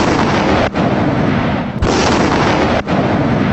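A loud, sustained roar of an explosion at a harvested grain field as young harvesters head home for lunch, dense and rumbling, broken by a few brief dips before the blast noise surges again. No one speaks.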